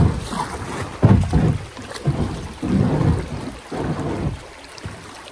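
A boat hull grinds and scrapes over a shallow riverbed in a series of low, rough bursts, with a steady wash of wind and water underneath.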